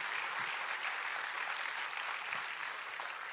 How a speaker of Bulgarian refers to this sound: Да му благодарим с аплодисменти и да му пожелаем успех.